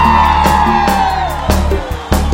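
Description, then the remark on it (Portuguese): A crowd of single women in an audience screams and cheers loudly and continuously, high-pitched shrieks carrying over the roar, with steady thumping beats pulsing underneath. “Cadê o grito das mulheres solteiras?”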